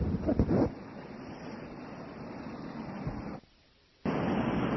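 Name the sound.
rain falling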